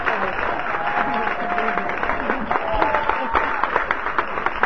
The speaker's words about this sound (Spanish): Vamos a darles una bienvenida, un aplauso.